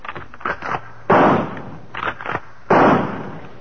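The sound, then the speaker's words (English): Two loud rifle shots, fired into a silent jungle at night at almost 4 o'clock, ring out about a second and a half apart, each a sharp crack followed by a long, rolling decay, with softer thuds and rustles in between. “It's not afraid of rifle fire.”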